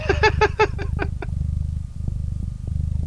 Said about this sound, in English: Is there a cat on your desk? Yes. You're purring. Can you move the cat? It sounds like there's a Harley Davidson idling right next to your head. I'm going to see if I can put the microphone on Potato. Yeah, that's a loud-ass purr.